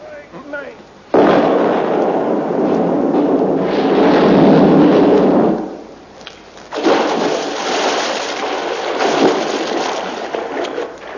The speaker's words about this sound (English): We've come to blow the bridge up.